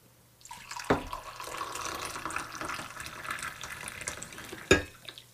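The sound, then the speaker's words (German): Mate tea pours steadily into a cup for about four seconds, a bubbling trickle framed by a light clink at the start and another at the end. “Ich gieße mir noch einen Tee ein”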